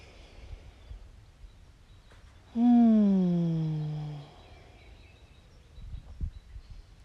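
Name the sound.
birds chirping outdoors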